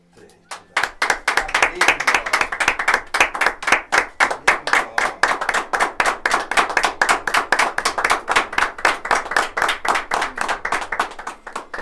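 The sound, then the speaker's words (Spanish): A small studio audience in a radio studio applauds loudly in steady, rhythmic unison for the unveiling of a plaque, sharp claps repeating about four times a second and continuing for roughly eleven seconds. “Somos poquitos aquí en el estudio, pero seguramente el aplauso nuestro cuando esto ocurra replicará en el aplauso de todos quienes estén en casa, escuchando o viendo a través de redes sociales.”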